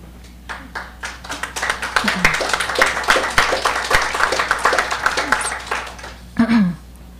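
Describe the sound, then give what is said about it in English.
An audience breaks into applause after a poem, many hands clapping in a dense, steady patter that swells quickly and holds for several seconds, with a few scattered voices and a brief murmur near the end. “Don't feel compelled to clap.”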